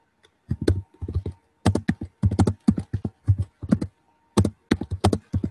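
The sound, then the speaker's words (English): Rapid clacking of computer keyboard keys in irregular bursts, several quick keystrokes clustered together with brief pauses between, loud and dominant with no voices, picked up by the keyboard's microphone instead of a headset microphone. “Your typing is drowning you out.”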